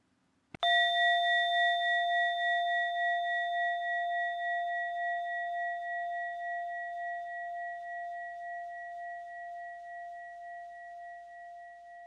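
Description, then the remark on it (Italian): A single bell is struck once during a meditation exercise and rings out with a clear, steady tone that slowly fades over about eleven seconds, heard alone without any talking. “Ora prova ad ascoltare profondamente il tuo corpo fino al suono di campana.”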